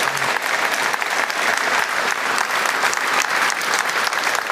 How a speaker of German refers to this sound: Applaus nochmal. Dankeschön. Vielen Dank.